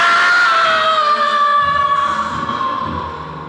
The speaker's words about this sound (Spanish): Pierde el equilibrio al tratar de recuperar sus diamantes y se precipita al vacío lanzando un grito de angustia y muerte.